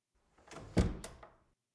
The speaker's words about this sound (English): You mind if I shut that door as well? I don't like having it just open like that for no reason.